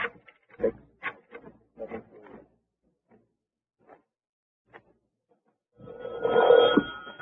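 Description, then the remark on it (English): A series of short clicks and rattles gives way to quiet, then a loud telephone bell rings for about a second at the end, as a call is placed to the YWCA. “Phone the YW.”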